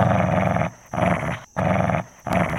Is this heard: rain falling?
no